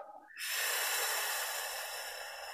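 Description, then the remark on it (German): A single long, forceful exhale during a breathing exercise, after inhaling with the corners of the mouth pulled up toward the ears; a loud breathy hiss lasting a couple of seconds, starting after a brief quiet moment with no talking. “Beim zweiten Mal nehmen wir den Mundwinkel ganz intensiv bis zum Ohrwaschel beim Einatmen und atmen aus.”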